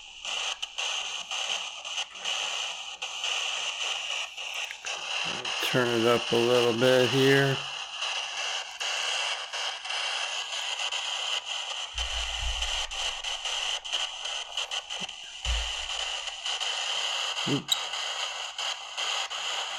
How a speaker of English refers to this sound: Okay, kids, I'm turning on my ghost hunting application on my Android phone in honor of Art Bell's passing, and just to see if we have any spirits that are willing to talk.